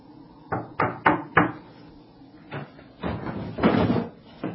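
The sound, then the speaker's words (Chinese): Four sharp knocks rap in quick succession on the wooden door of an inn in Bethlehem at nightfall, followed by a few duller thumps and a rattling shuffle as the door is handled. No one speaks. “于是若瑟来到一家客栈门口，敲敲门。”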